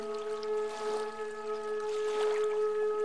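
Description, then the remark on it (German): Gentle water sloshes and splashes against a small rowing boat on a lake, with two fuller swashes like oar strokes as two people row, all over a steady low humming drone. No one speaks. “Das Plätschern des Wassers hatte etwas Unwirkliches.”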